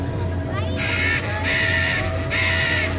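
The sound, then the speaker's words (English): A loud bird high up in a tree repeatedly calls, three harsh, raspy caws in a steady rhythm over a constant low hum of background noise. “noisy bird?”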